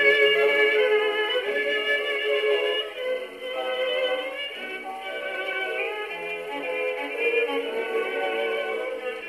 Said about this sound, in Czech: A když to ten gramofon přehrával, tak se musela na každou stranu desky měnit jehla. Točíme klikou. Ano.